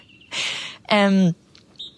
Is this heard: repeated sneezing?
no